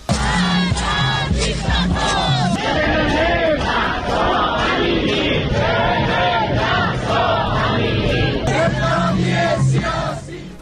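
protest crowd chanting slogans

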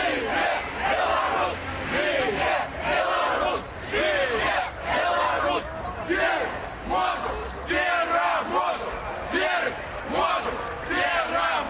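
crowd of demonstrators chanting

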